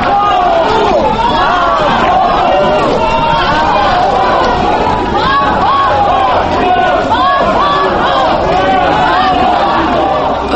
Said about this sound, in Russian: Их встречали также аплодисментами, и люди были действительно возбуждены